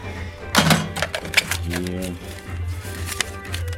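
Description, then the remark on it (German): A cashier sets a cash box on an antique wooden cash table, and it clacks open with a sharp metallic clunk, followed by rustling and clinking as the coins and notes are sorted, with a steady low hum and a voice murmuring in the background. “dann unser antikes Holztischchen, das ist der Kassentisch, wo dann der Vorführer, Kassierer mit der Kasse kommt, also aufmacht, Kasse drauf, aufklappt und dann wird hier kassiert und reinspaziert. Kassierer nimmt Platz, sortiert nochmal die Kasse.”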